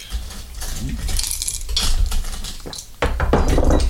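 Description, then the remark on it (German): Hard little clinks and clatters of ice cubes dropping into glasses, three cubes per glass, for cocktails: a series of bright, sharp knocks scattered over several seconds, with a louder burst of rattling toward the end. “Du kannst schon mal in die Gläser jeweils einfach mal 3 Eiswürfel rein.”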